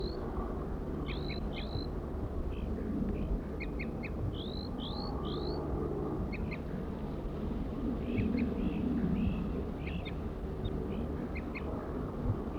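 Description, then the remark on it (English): A wild male crossbill sings, repeating short, high whistled notes and quick upslurred phrases in irregular bursts over a steady low background rumble, tooping in response to the song of another crossbill, bird 4-3. No one speaks. “Wild male. Wild male. Tooping to 4-3's song.”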